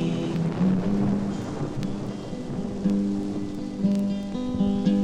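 Steady, dense rainfall hisses throughout with a deep rumble of thunder underneath, while sustained low tones hum beneath the storm; no one speaks.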